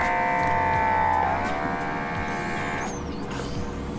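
A suction toy turned up to setting three gives a steady, loud high-pitched whistling whine with a mechanical hum. Its pitch dips slightly after a second, holds, then cuts out near the end.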